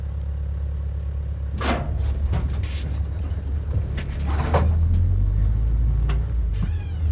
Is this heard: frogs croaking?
no